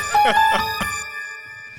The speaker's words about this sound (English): But yeah, the doorbell rings and Wanda goes to answer it.